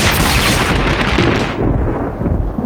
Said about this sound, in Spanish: El jueves, una fuerte tormenta despertó a la pareja en medio de la noche. Un rayo cayó cerca.